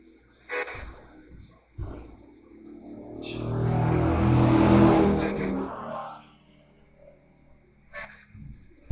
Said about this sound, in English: It's pretty disrespectful for people to be driving around in loud cars like that or in this area, isn't it?